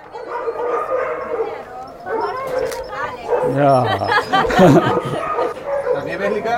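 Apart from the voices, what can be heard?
dogs barking and yipping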